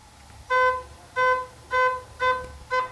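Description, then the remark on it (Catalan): A soft organ flute pipe register, with a fainter, more romantic and softer tone than a normal flute, sounds the same mellow mid-pitched note five times in a steady rhythm, each note short and smooth, with brief pauses between and no voices. “Ara escoltarem un altre que té un so més tènue, és un so més romàntic, més suau.”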